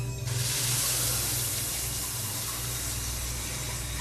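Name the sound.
water running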